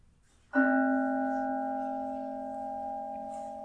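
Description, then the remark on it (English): A bell is struck once, giving a sudden clear tone with several steady overtones that ring on and fade only slowly over a few seconds, with no voices. “So when Raoul rings the bell, I'm going to invite you into the kingdom of heaven, whatever you want to call it.”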